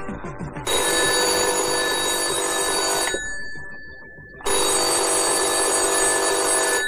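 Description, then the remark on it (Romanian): A telephone bell rings loudly in two long bursts separated by a short pause, a bright, continuous metallic ringing with no voices; it is the long-distance (intercity) call tone, ringing at dawn. “Moș Pricochi mai doarme și ar mai dormi, poate, dar sună telefonul.”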